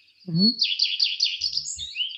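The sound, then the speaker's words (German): A common redstart (Phoenicurus phoenicurus), a bird native to Germany, sings a short, bright phrase of rapid high warbling notes, rising then fluttering, clear, with a brief low sound at the start and faint low bumps near the end. “Der Schlaui-Name ist Phoenicurus Phoenicurus.”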